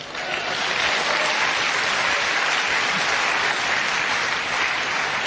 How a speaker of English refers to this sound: Clap.